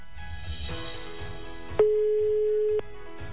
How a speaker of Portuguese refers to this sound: Então tocou o telefone, já atende dizendo Feliz Natal Nativa.